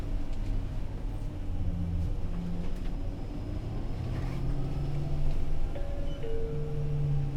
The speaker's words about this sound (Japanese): 発車します。おつかまりください。危険ですので車内の移動はおやめください。